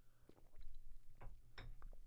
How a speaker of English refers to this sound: Let me take a coffee sip. This is nice, beautiful. Let's take a nice coffee sip break.